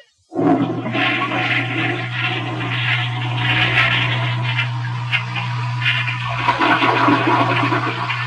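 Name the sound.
toilet flushing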